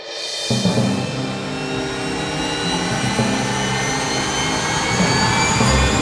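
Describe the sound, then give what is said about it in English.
A black helicopter's engine starts up with a sudden turbine roar, then a loud, steady whine holds with high tones gradually climbing as it spools up, with no voices. “The black helicopter comes to life as the teens, now clad in black and yellow costumes, walk up its entry ramp and get on board.”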